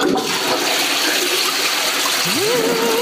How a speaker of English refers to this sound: So here's a toilet flush.